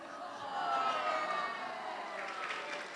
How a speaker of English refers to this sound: Yeah, round of applause. Yeah.